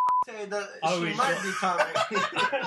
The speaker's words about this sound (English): Oh, it's going to take forever to beep everything. I don't even know how to do it.